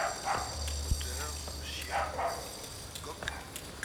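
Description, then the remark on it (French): A dog barks several times over a steady low engine rumble, with faint city ambience around it. “Une part de la ville vue d'en haut. Moteur. Chien. Coq.”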